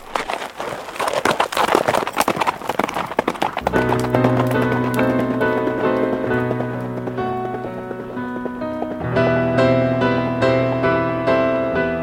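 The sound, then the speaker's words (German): Horse hooves clip-clop in a steady, rapid rhythm as a borrowed horse-drawn wagon rolls along on the way to Radin, loud; after a few seconds, sustained music swells in and carries on over the hoofbeats. “Oft zum Morgens hat Fischl geborgt von seinem Schuchenberl, der Pferden wogen, in es gefahren kein Radin”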